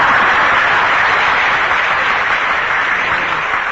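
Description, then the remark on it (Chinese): Steady, dense applause from a crowd for several Buddhist masters, a loud continuous wash of many hands clapping with no individual claps standing out, holding at an even level throughout with no talking. “哎，那么你们现在鼓掌，他们是法师，那我呢也是法师啦。”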